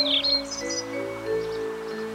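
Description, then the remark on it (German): A few quick, high chirps of birds in trees flutter at the start and fade into fainter twitters, over a steady low droning hum that continues throughout; no one speaks. “Im Gegenteil, die Sonne stand noch ein ganzes Stück über den Hügeln und in den Bäumen zwitscherten die Vögel.”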